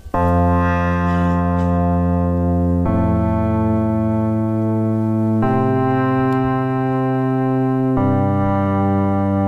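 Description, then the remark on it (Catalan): Loud, sustained organ-like chords drenched in a reverb effect imitating the reverberation of La Seu cathedral, prepared by Miquel Soler, shifting to a new chord roughly every two and a half seconds with no voices present. “Molt bé, la reverberació de la seu, perfecte.”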